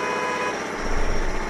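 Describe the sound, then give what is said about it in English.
Car horns blare in sustained, overlapping honks from irritated drivers stuck in traffic, over the low rumble of idling engines and road traffic, loud, with no one speaking. “Irritated drivers stuck in traffic.”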